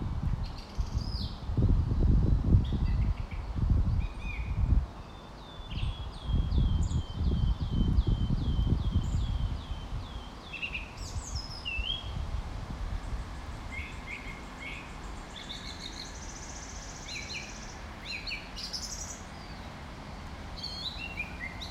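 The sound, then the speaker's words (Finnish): Several birds sing and chirp outdoors, bright repeated trills and short calls scattered throughout, with a rustling, windy low rumble in the first half that fades to quieter ambience. “Ja tämän jälkeen keskity kuuntelemaan, mitä muita ääniä kuulet kuin tätä lintujen liverrystä.”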